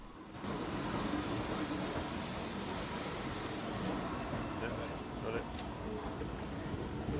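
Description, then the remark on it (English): Another train's line of mostly maroon carriages rumbles steadily past, a loud continuous clatter and roar that begins abruptly and holds at full strength for several seconds, with faint metallic squeals mixed in. “Ryan makes his way back to the Flying Scotsman as the other train's line of mostly maroon carriages rumbles past”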